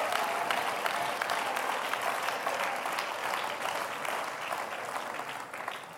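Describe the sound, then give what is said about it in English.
Sustained applause from a large group, dense overlapping claps forming a steady wash of sound that holds at an even level throughout, fairly loud with no speech over it. “Don't you stop clapping your hands.”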